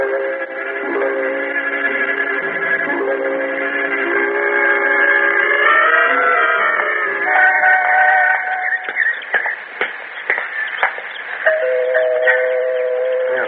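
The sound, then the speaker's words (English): Door chimes ring out a long, melodic sequence of sustained, overlapping tones that shift in pitch, fairly loud, with a few sharp clicks partway through and no voices. “Even the door chimes sound rich.”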